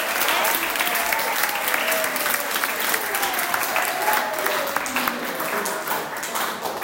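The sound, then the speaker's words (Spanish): An audience applauds steadily and loudly for several seconds, a dense wash of many hands clapping at once with a few faint cheers or voices mixed in. “¡Un aplauso!”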